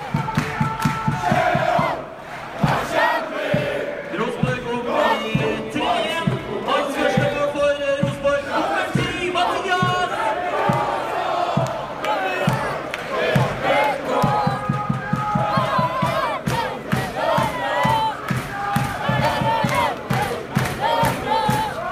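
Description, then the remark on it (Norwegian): A large football crowd on the Øvre Øst stand, including a very young fan, chants 'sha-la-la' together in a loud, steady, rhythmic singalong. Many voices blend into a sustained melodic roar with regular pulsing beats throughout. “Det handler om en svært ung nippan som på Øvre Øst og synger sjalalalalalalala.”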